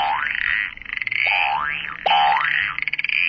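A recorded frog croak plays from a children's sound book: fairly loud, tinny croaks with rapid rattling pulses and rising chirps repeating for a few seconds, with no talking.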